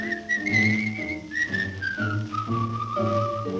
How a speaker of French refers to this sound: Le pêcheur au bord de l'eau, abrité sous son chapeau, est heureux, il trouve la vie belle. Tandis que flotte son bouchon, il sifflote une chanson.